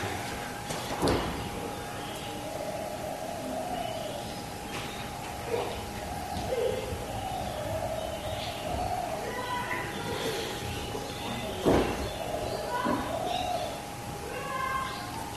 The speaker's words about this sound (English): Somehow it doesn't sound like the downstairs door banging. It sounds like our pews.